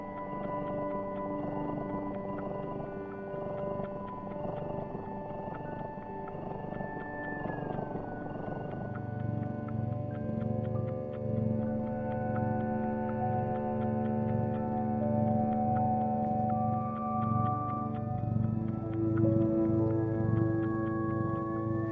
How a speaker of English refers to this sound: Beautiful. Yeah, so you can hear the suckling sounds and the purring and all those different things. Mm-hmm. That's very relaxing in a way, even for a human.